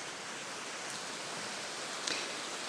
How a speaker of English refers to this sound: We are in Jesse Rappaport Port listening to the rain.